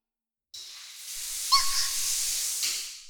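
Bath jets in a bathtub suddenly burst on from multiple bubble holes, spraying water with a steady, bright hissing rush that holds for a couple of seconds, a brief squeaky whistle rising partway through, then tapering off.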